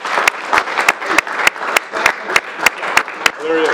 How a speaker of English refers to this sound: Senator, I'd like to give you one more round of applause. Thank you.